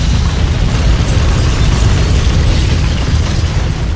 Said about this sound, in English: September 21st, 1921. In the village of Opal, 90 miles south of Frankfurt, Germany, an explosion engulfs the local BASF factory.